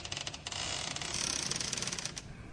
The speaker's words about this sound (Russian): Первоначально кажется, что это крыса царапается в дверь.